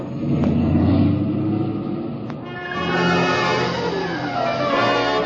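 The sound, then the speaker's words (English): A car engine roars and revs hard as the car accelerates downhill to get ahead of a runaway truck loaded with nitro, a loud rumble that rises in pitch and holds steady with no voices over it. “I gotta get ahead of that truck fast.”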